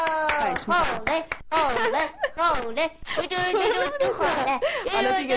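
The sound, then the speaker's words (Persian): Hands clap in a brief burst of applause after a short rhyme about a clock is recited, the sharp claps mixed with lively voices laughing and cheering, filling the whole moment. “ما هم تشویق میشیم دیگه به همین راحتی.”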